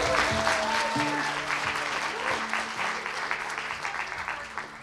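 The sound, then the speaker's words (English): A crowd at a community storytelling event claps for The Lyric, the venue hosting it, in a steady, dense, even wash of applause, loud at first and gradually thinning, with a few voices and a faint tonal hum running underneath. “Give another round of applause too for The Lyric for hosting us this evening.”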